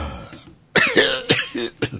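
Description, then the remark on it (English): A short coughing fit: three harsh, raspy coughs in quick succession, loud, following a brief moment of near silence. “Well, it would be help if you talked while I'm coughing to death.”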